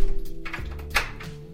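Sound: door being closed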